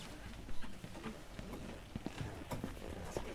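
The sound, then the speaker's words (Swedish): Quick, hurried footsteps of someone running with a microphone to an audience member for questions, an uneven patter of soft thuds mixed with rustling and handling noise over a low background murmur. “Jag springer med micken.”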